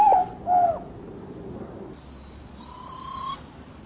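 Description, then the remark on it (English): Two short, hollow calls ring out close together at the start, then give way to soft outdoor ambience with faint, thin whistles. The caller is a small, gray, plump bird with feathers sticking out around its head, sitting in its nest and calling to protect its young. “My bird, this bird that we're looking at is a gray bird. It's got one of those kind of fatter bodies on it.”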